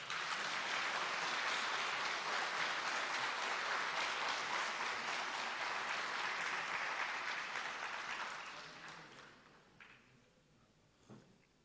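Sustained applause from a large crowd, a dense steady clatter of many hands that holds loud for about eight seconds, then thins and fades out, leaving a few scattered claps.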